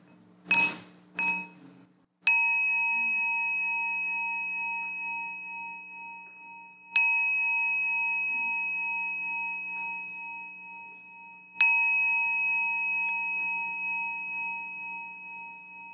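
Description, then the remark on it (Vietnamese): A meditation bell is struck three times during an evening retreat in Orange, California, USA, each stroke ringing out clear and resonant and fading slowly before the next, after a couple of soft wooden taps at the start. “chúng ta lắng nghe tiếng chuông.”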